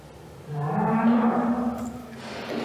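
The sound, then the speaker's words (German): A slightly restless cow, being measured for height at the sacrum (1.52 metres), lets out a single long, low moo lasting about two seconds, starting with a rising pitch and holding steady before trailing off, with no talking over it. “Die Kuh ist ein kleines bisschen unruhig.”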